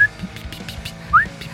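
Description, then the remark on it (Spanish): A person whistles an imitation of the beep a blood pressure monitor made when it finished measuring blood pressure: two short, high-pitched tones, the second sliding upward, heard clearly over a faint low background hum. “Bueno, y bueno, al hacerlo, emití un pitido.”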